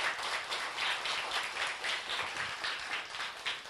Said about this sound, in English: Rhythmic clapping.